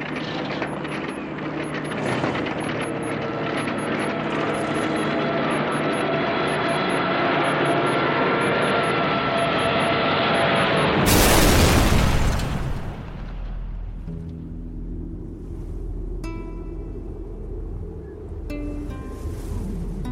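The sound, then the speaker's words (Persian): A steady, dense aircraft engine roar drones for several seconds, then a loud booming crash bursts out as the airplane's engine breaks down in the Sahara desert, leaving a low rumble with scattered metallic clicks and rattles. “یک چیز موتور هواپیمام شکسته بود و چون نه تعمیرکاری همراهم بود نه مسافری، یکه و تنها دست به کار شدم تا از پس چنان تعمیر مشکلی بر بیام.”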